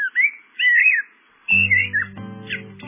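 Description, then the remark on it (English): A Eurasian blackbird sings clear, fluty warbling phrases in short bursts, and partway through, steady low instrumental tones join beneath the continuing song. “It's the song of the Eurasian blackbird.”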